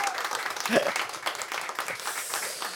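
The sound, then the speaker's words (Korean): An audience breaks into steady applause, a dense patter of many hands clapping at moderate volume throughout, with a brief voice or cheer poking through early on. “박수 한번 주세요 여러분.”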